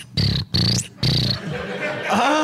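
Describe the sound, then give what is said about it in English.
A voice imitates a cricket in danger with three loud, harsh, buzzy bursts in quick succession, then trails off into a softer, strained sound that rises in pitch at the end. “So crickets make that noise? Mm-hmm. Unless they're in danger, then they make this noise.”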